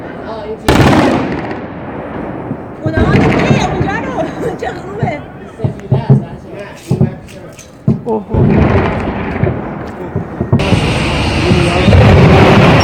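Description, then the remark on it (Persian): Loud anti-aircraft gunfire cracks in rapid, irregular bursts, with sharp reports coming in quick clusters over a broad roar, while voices chatter faintly in the background, as anti-aircraft guns fire at a drone in the sky over Tehran. “این تصاویر رو ببینید که از شلیک ضد هوایی های مختلف به این پهباد در نقاط مختلف ثبت شده و نشون میده این حجم شلیک برای هدف قرار دادن این وسیله انجام میشه که البته کار درستیه.”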